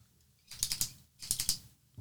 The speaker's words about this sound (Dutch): Ik doe het zelf nou net ook, merkte ik. Met je pen klikken.